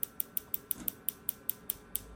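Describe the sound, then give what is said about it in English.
Soft, steady ticking from a medical treatment probe used on the prostate area: about eleven crisp, high clicks evenly spaced in quick succession, quiet throughout with no voices over it. “So how the prostate will do, you can hear the sound of it. See? It's like a tick, tick, tick. Very, very low sound.”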